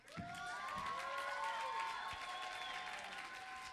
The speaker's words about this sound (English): Oh, I mean, are you really? Are you just clapping and hooting and hollering